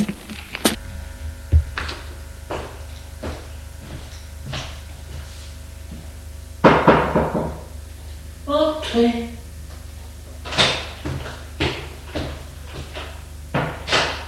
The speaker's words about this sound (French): elle va frapper à la porte de sa chambre.